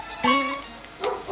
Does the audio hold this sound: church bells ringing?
no